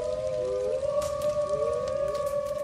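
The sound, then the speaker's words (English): Distant wolves howl together, several long, drawn-out tones overlapping and sliding up and down in pitch, sustained for the whole stretch with no voices present. “talking about commerce as the wolves howl in the distance.”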